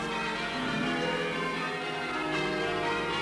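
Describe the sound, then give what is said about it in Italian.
Bells of a village church in Wales ring out in a continuous, overlapping peal, their tones blending into a steady wash of sound at moderate volume, with no voices present. “La chiesa del villaggio era famosa per il dolce suono delle sue campane”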